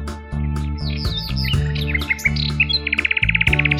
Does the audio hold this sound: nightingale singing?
yes